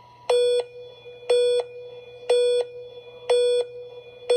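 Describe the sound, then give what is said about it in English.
Five steady electronic beeps of an alpine ski race start countdown at the start gate, one each second, each a short bright mid-pitched tone of equal length and loudness over a faint low hum. “Then the 5-second countdown begins.”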